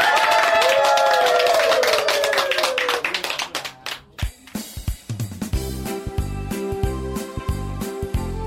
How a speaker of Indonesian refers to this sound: Untuk mengakhiri diskusi pada siang hari ini, marilah kita beri tepuk tangan yang meriah untuk kita semua.